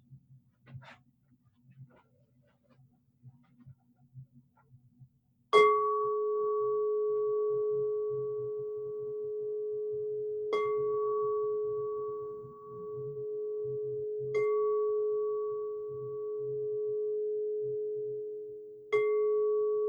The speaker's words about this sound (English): And receive again as I sound the bell.